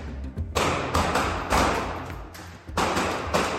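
A door bangs open with a heavy thud as a male officer in protective gear pushes in during a school shooting training drill, followed by several more loud impacts and rushing noise at an uneven pace, with no voices.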